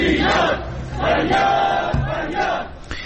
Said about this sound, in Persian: سوم بهمن ۱۴۰۰ دولای سازمان تحقیق اجتماعی بازنشستگان رشت برای اتفاق حق خودشون تجمع کردن و نارضایتی خودشون از این ظلم که به جامعه بازنشستگان رواده شده فریاد می‌زنند.